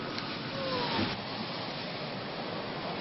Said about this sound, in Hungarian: Így csobban a vízbe ez a busz a pesti alsórakpartnál. Ez most a legújabb turista látványosság Budapesten. A kétéltű a belvárosban a buszsávban közlekedik, de ahogy elér a Dunához, sétahajóként úszik tovább a budai vár felé.